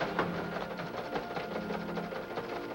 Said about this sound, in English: The teletype's in your office.